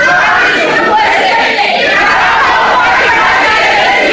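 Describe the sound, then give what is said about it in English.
A large crowd of protesters shouts together in a lecture hall where former New York City Police Chief Ray Kelly was invited to lecture on his stop and frisk policies, a dense, loud and unbroken wall of raised voices that holds steady for the whole stretch without pause. “Protesters picketed outside, filled the lecture hall, and then they did this.”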